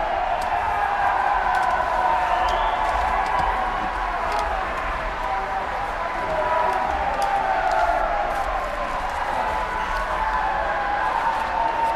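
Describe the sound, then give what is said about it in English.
Sustained clapping from the public gallery, steady and fairly loud for the whole stretch, mixed with a dense murmur of voices. “We would have to clear the gallery if clapping continues.”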